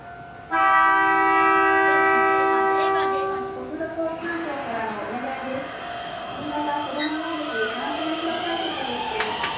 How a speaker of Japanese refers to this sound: 列車が出発しました。